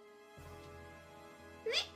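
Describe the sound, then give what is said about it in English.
A child pretending to be a scaredy cat during a picture-book reading briefly imitates a cat's meow, giving a single short, high-pitched mew near the end over a steady low background hum. “So are you a cat?”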